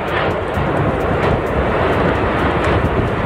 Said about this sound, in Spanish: Allí ese volcán, el Cumbre Vieja, continúa expulsando lava. Todo comenzaba a las 3:12, hora canaria, 4 y 12 hora peninsular. Una erupción, un rugido que se ha sentido en varios kilómetros a la redonda.